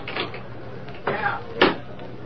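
A knife pries at a locked desk drawer: light scraping and rattling, a rough grinding scrape, then a sharp metallic snap as the lock gives.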